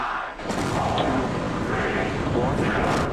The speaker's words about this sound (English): Liftoff for SpaceX Starship, the world's most powerful rocket.